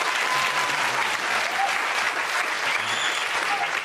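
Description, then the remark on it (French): The live audience of a show recorded in public applauds on request, steadily, a dense wash of many hands clapping at a constant, fairly loud level for the whole few seconds, with no speech over it. “Il me suffit de demander au public présent de se manifester. Applaudissez, s'il vous plaît.”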